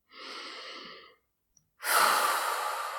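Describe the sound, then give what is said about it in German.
A slow, deep inhale lasting about a second, a brief pause, then a longer, louder breathy exhale, with no talking. “Erst einmal tief durchatmen.”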